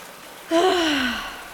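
A single sharp, loud gasp trailing into a sputtering, breathy exhale with a faint watery splutter as someone spits out a large amount of water after landing back on an animal's back, heard alone with no talking.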